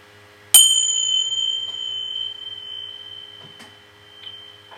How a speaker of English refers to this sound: So I'm going to ring the bell, and then I shall sing.